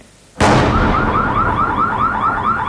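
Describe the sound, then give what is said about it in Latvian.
A sudden loud boom breaks the quiet, followed by an air raid siren in Kharkiv during an attack on the city, its steady, rapidly warbling tone cycling over and over above a broad rumbling noise, with no voices. “stundu pēc kārtas turpinās gaisa trauksme un es arī joprojām esmu patvērumā, bet ap pulksteni 10:30 no rīta sākās pats uzbrukums, kārtējais uzbrukums Harkivai.”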